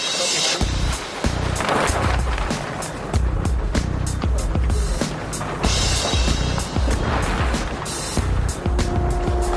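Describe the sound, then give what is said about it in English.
A large exhaust fan, turned on to ventilate part of a mine 700 feet below the surface, roars steadily and loudly with a deep rumble and broad hiss, punctuated by occasional clanks and knocks, echoing in the enclosed underground space. “That's an exhaust fan we turned on to help ventilate that side over there.”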